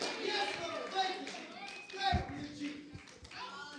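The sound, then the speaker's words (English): A church audience claps hands in a dense, continuous patter mixed with many overlapping voices and shouts, with a few sharper claps standing out toward the end. “Come on, clap your hands and say, sickness will be canceled in the name of Jesus.”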